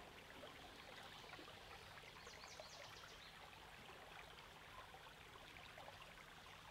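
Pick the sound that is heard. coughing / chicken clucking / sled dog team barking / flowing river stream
flowing river stream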